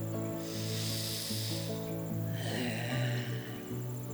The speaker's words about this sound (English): Let's breathe together, okay? I know it helps me a lot. Breathe in. And out. Look at them. Breathing together.